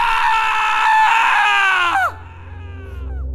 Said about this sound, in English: Suddenly, an ear-piercing shriek of pure terror shattered the hushed sounds of No Man's Land that startled even the ordinarily unflappable Bucha.